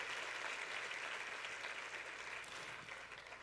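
Steady applause from a crowd, a dense wash of many hands clapping that holds strong throughout and eases slightly toward the end, with no voices over it.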